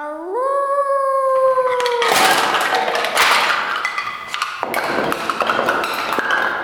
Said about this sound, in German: Blödsinn, das war doch nur der Wolf vom Anfang.